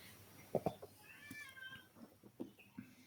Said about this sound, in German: Diesmal ist es nicht meine Katze übrigens. Richtig, ich wollte gerade überlegen, das ist hier mein Kater, der gerade unbedingt zur Tür rennen will, aber nicht darf. Ignoriert ihn einfach.